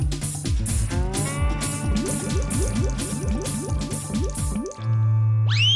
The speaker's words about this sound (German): Und nun schüttet es wie aus Eimern.